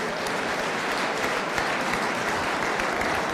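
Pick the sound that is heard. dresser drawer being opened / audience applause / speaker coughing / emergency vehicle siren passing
audience applause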